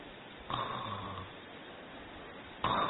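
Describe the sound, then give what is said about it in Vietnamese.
A person mimics snoring with their voice: one drawn-out, rumbling snore, a short pause, then a second snore starting that gets cut off. Fairly loud, with no talking. “Đấy, vừa nghĩ một cái là ngáy o o ngay.”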